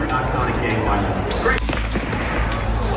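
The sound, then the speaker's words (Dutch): One sharp gunshot cracks out partway through, cutting across a steady murmur of crowd voices, at an event on a university campus in Utah, USA, where conservative influencer Charlie Kirk, the guest speaker, was shot dead. “Je hoort het schot en de paniek die daarop ontstaat.”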